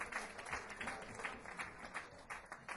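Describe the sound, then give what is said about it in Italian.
An audience applauds steadily for the Batard and other live music clubs, a dense wash of many hands clapping at a fairly even level throughout, with no voices over it. “e sosteniamo i club della musica dal vivo come il Batard e tanti altri, quindi giusto, facciamolo subito l'applauso per il Batard e i grandi club della musica dal vivo.”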